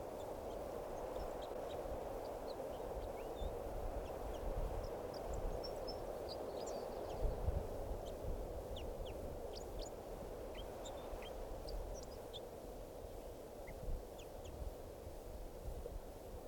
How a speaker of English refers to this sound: Those wild birds who have come in, look like about two birds, are in song. So, and one of the birds is getting some calls here.